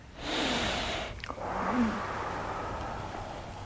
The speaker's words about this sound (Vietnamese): Thì trước khi á, mình vào trong cái ngồi thiền á, thì mình hít thở 3 lần. Hít mũi, thở miệng ra. Mình tưởng tượng như tất cả các phiền não, tất cả các xui xẻo, tất cả gì nó đi ra hết.